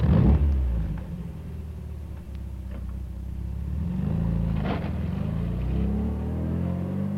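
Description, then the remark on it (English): A red sports car's engine rumbles and revs, a deep, steady roar that swells slightly partway through as the car passes the end of the lane, with no voices. “It's passing the end of the lane. It's in front of us now.”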